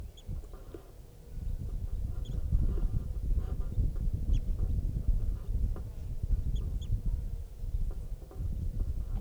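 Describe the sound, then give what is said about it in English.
Brief, high chirps of a wild bird sound every few seconds over a steady low rumble of background noise, with no one talking. “Wild bird.”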